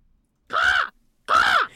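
Two loud, raspy eagle cries in quick succession, each lasting under half a second with a brief pause between, alone with no voices.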